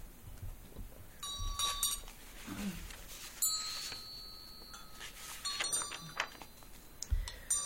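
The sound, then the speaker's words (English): A small vajra handbell rings out twice during a Green Tara offering practice, each strike leaving a bright, high, shimmering tone with clear overtones that sustains and slowly fades, over a faint rustling background with no talking. “Presenting outer offerings to oneself as green Aryatara, Vajran Bell.”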